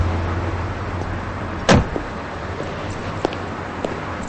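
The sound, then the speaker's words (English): A car door shuts with one solid thump over a low, steady engine hum as a man gets out of the car in a motel parking lot, followed by a couple of faint clicks. “They pull into a motel parking lot, and Davis gets out of the car.”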